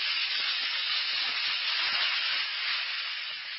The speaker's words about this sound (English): That's the only way to find out about the wonderful relief Alka-Seltzer brings. Just drop a tablet or two into a glass of water like this. Listen to it fizz.